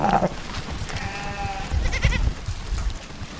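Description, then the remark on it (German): Goats and sheep bleat amid a herd's low, restless rumble, with one long wavering bleat standing out near the middle and softer calls around it, as a Maasai village's thirsty herd in Kenya heads to a nearly dried-up river, raising a large dust cloud. “und Schafe laufen durstig an einen Fluss.”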